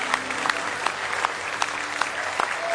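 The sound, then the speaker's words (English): Sustained applause from an audience clapping in praise of the Lord, a dense wash of hand clapping with a few sharper claps standing out at irregular moments, steady and fairly loud throughout with no voices. “Oh, give him one more good hand clap of praise tonight.”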